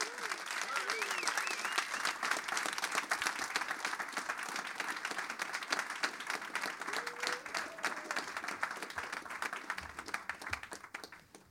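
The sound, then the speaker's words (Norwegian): A crowd applauds steadily and densely for several seconds as Torkjell Rød and Arve Isdal are welcomed, a sustained wash of many hands clapping with a few voices cheering faintly underneath before it tapers off at the end. “Applaus!”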